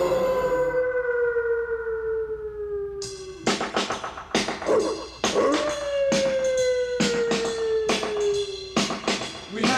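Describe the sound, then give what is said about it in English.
A werewolf howl: a long, sliding cry that falls in pitch, then a second drawn-out howl rising over a string of loud, harsh, rhythmic bursts. “Je vous ordonne de devenir le méchant loup-garou.”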